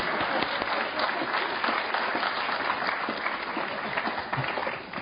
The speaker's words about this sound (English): All right, I've been preaching for Morningside for 30 years and about 8 months. Well, you can clap for them if nothing else.